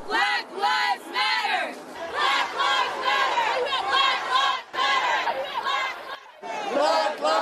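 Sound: protest crowd chanting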